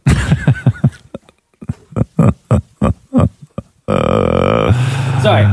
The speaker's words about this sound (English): Okay, so there's a dog, and its owner's recorded it whining, because dogs do, right?